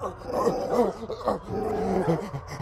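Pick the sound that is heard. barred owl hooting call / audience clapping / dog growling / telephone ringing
dog growling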